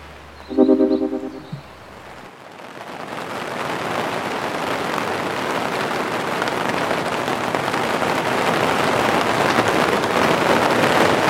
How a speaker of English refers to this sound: The rain has come back with a vengeance.